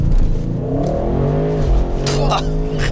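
An Audi RS6 quattro launches hard from a standstill using launch control on dry asphalt, its engine note climbing steadily through the revs with a brief chirp of wheelspin, loud throughout.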